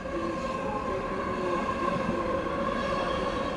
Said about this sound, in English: Maybe I'll wait for the train to pass.